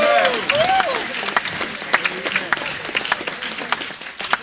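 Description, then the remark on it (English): An audience claps together as a clap offering for the Nigerian church and the Nigerian government, a dense, steady patter of many overlapping hand claps that continues throughout, with a few raised voices calling out near the start. “And give the Nigerian government a clap offering.”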